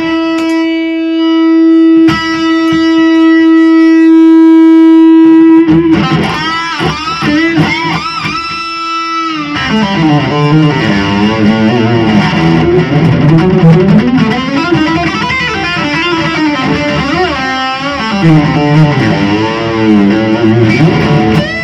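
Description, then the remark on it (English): An electric humbucker guitar through a boost distortion: a long sustained, buzzing held note rings out, then gives way to loud, dense, saturated riffing that continues to the end, with no talking. “So it's a really nice humbucking guitar. Sound, now show us with the boost it.”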